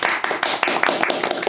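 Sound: applause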